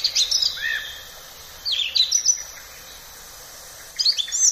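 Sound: song thrush singing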